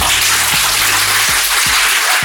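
Loud, sustained audience applause, a dense wash of many hands clapping at once that holds steady throughout without any voices.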